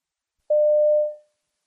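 A single steady telephone tone sounds clearly for under a second, a flat electronic beep that tapers off at the end, with silence before and after and no voices; a phone call to a London fruit and vegetable wholesale supplier taking restaurant orders.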